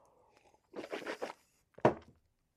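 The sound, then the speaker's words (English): A quick swig of water: a crinkly, rustling burst of handling a bottle, a short pause, then one sharper gulp-like sound, with no talking. “I'm gonna take a swig of water here.”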